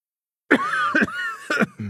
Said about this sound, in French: You're coughing.